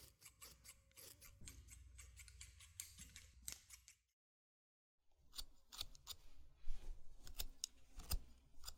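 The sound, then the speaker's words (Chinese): Scissors snipping through still slightly damp hair to trim bangs, with quick crisp repeated cuts in two runs separated by a brief silent pause. The snips are soft but clear, with no talking. “趁着头发还有点湿，可以用剪刀打理一下刘海。”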